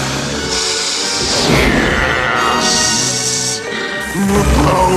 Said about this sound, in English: Aladdin smashes the hourglass.